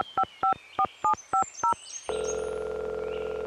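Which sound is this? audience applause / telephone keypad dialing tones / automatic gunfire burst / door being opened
telephone keypad dialing tones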